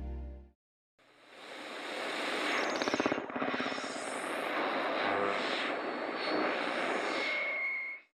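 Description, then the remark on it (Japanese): A loud, rough airplane engine roar of a plane making an emergency landing because of a storm bursts in after a short pause and holds steady for several seconds, with surging swells and a thin whine rising near the end before cutting off. No voices. “嵐のために緊急着陸をしました。際どい着地でした。”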